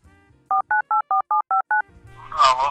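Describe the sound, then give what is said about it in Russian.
A rapid series of seven short, evenly spaced telephone keypad tones as a number is dialed to call an editor of the magazine Strana Igr, followed by a brief burst of muffled line noise or a voice on the phone. “Да, ситуацию по телефону готов прокомментировать”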